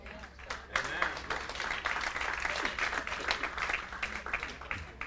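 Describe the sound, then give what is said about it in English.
A soft, polite golf clap from a small group during a church altar call, a light scattered patter of claps that runs steadily for about five seconds with faint murmuring underneath. “Golf clap on that one.”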